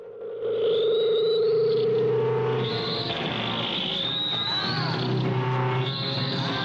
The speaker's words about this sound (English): The judges wince at the sound of feedback.